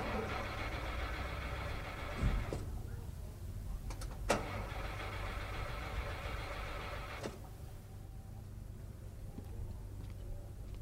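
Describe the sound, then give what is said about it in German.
A car engine cranks and turns over, settling into a steady, loud mechanical rumble with a couple of sharp clunks along the way, continuous throughout. “Was machen Sie denn hier in dem Wagen?”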